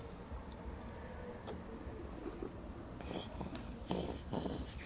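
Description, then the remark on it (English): Heavy breathing out, a series of rough, wheezy exhalations that grow stronger in the second half, fairly quiet, with no talking. “What you breathing out heavy for?”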